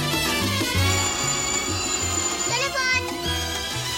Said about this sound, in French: Nous on va peut-être, avant de se quitter, écouter le répondeur. Je sais pas, il y a peut-être un message. Le téléphone.